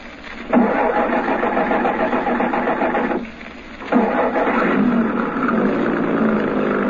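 A truck engine turns over and catches, running with a loud steady rumble, briefly dropping off before roaring back up and continuing to run. No voices.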